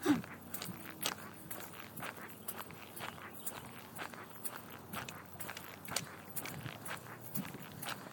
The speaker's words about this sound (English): Just turn down the trail. If you can get over the sound of my squeaky shoes.